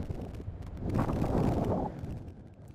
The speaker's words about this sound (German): Wenn der Wind bläst wie heute, dann hört man ihn schluchzen und stöhnen, weil er die Kerzen nicht mochte.